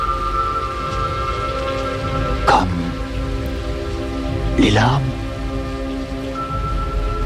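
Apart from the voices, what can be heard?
rain falling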